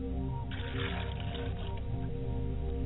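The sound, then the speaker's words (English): Water is poured out as a libation to the south in a short, splashing trickle lasting about a second, over a steady low musical drone that continues throughout. “I pour libations to the south and I say Ashe.”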